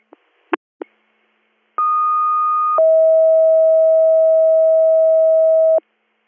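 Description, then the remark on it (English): A fire dispatch paging tone for an additional page calling for manpower for the engine to respond: a few sharp clicks, then a steady higher tone for about a second that drops to a lower sustained tone lasting around three seconds, loud and alone. “Additional page.”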